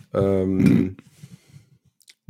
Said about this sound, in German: tippt an der Gitarre.